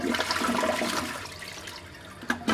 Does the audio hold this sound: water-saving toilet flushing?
yes